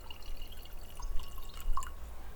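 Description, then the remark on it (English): A drink trickles and splashes into a glass in short, quiet bursts with a few bright drips, alone with no voices. “Pour yourself something nice.”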